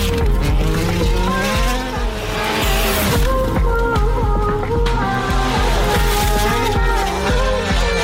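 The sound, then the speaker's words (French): A car engine revs loudly and continuously, its pitch climbing and falling in repeated surges, with a rough, throaty roar and a faint tire squeal. “La voiture de redémarre. Peut-être pas, je te fais régir le moteur.”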